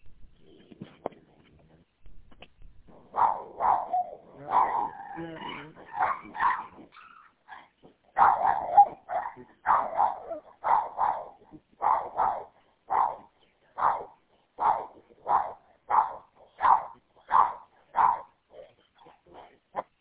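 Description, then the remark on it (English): Dogs bark repeatedly in a steady, rhythmic string of sharp yaps, sounding thin and band-limited as they carry over the Stateway 1 radio channel on Grand Haven, with a few whimpering yips mixed in early on. “All right, whoever has the dogs and got a radio on Stateway 1 that are barking, you gotta stop that crap.”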